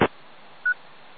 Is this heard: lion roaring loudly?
no